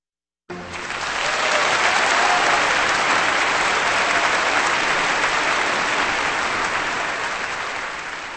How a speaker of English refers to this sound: That applause is for the Vienna Philharmonic, conducted by Zubin Mehta, with music by Johann Strauss Jr., Tales from the Vienna Woods, here on Kansas Public Radio